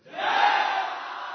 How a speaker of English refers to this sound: And the monkeys are chanting.